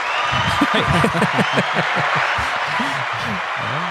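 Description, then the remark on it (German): Steady applause fills the whole clip, a dense hiss of clapping at an even, fairly loud level, with voices talking and chuckling over it in the lower range. “Das ist irgendwie mal ein Applaus wert oder irgendwie sowas.”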